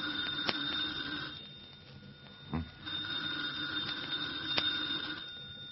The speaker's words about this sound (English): The phone, Comrade Svetik. Well, aren't you going to answer it?